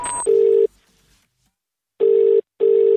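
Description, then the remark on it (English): An outgoing phone call's ringing tone as a radio host calls her boyfriend: a loud, buzzy purr that sounds once, pauses, then repeats as a quick double ring. No one speaks. “All right, so we called my boyfriend and asked the same thing.”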